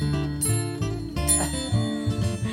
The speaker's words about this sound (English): The bells. He's got multiple bells. He's got bells in the belfry.